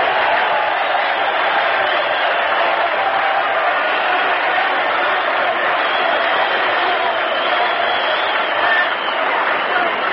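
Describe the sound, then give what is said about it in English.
A large stadium crowd at a Notre Dame–Army football game applauds an injured player as he trots to the sideline, a dense, unbroken wash of clapping and murmured cheering that stays loud and even for the whole stretch. “Listen to the hand he gets.”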